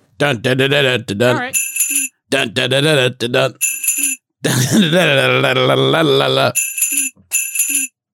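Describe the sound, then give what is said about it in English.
Bright bells ring out several times in short bursts, alternating with loud, drawn-out vocal sounds from voices, all fairly loud. “Yeah, I kind of replaced you guys with bells, and I'm really sorry.”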